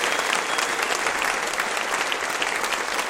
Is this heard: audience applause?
yes